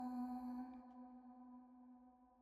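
A single deep church bell toll telling the hour at dusk, as the sunset lights a wheat field, its rich humming overtones lingering and slowly fading away, fairly soft overall.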